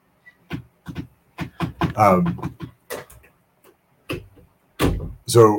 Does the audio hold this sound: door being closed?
yes